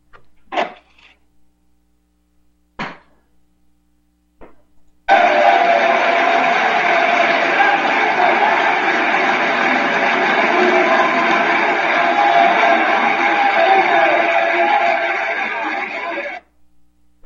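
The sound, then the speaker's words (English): A few brief knocks, then a sudden, loud, sustained roar of some 400 legislators cheering and shouting raucously for about eleven seconds as a vote defeat is dealt to Emmanuel Macron, before it cuts off abruptly. “Here they are breaking out into raucous cheering when this vote, this defeat is dealt to Emmanuel Macron.”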